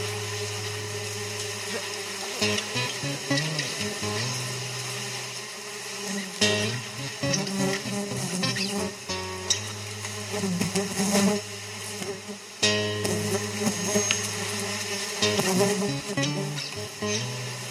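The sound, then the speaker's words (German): Wasps buzz steadily for the whole stretch, their droning hum rising and dipping in pitch as they move around, with no voices. “Summen die jetzt die ganze Zeit, oder?”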